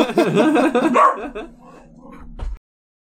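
A dog barks and yips excitedly for about a second, followed by quieter whimpering and a low rumble that fades out before a brief final thump.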